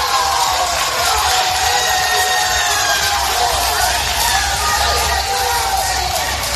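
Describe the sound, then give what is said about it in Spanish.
A loud crowd of family members cheers and shouts continuously as they welcome five young men out of prison, excited voices overlapping with whoops and yells, and clapping mixed into the steady roar throughout. “Entre aplausos y gritos de ánimo”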